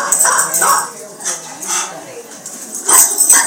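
A male dog barks in a handful of short, sharp bursts spaced irregularly, moderately loud, with a few higher yip-like notes toward the end.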